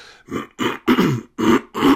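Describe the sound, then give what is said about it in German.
Five short, harsh coughs in a steady rhythm, fairly loud, with brief pauses between bursts and no talking. “Dieser Husten zum Beispiel hier.”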